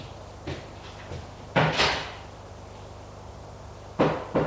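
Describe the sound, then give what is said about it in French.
Knocking on a door: a couple of soft taps, then a louder pair of wooden thuds, a pause, and two more firm knocks. No voices. “On a frappé à la porte.”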